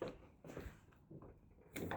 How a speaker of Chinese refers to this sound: 关门了，你别拽我呀！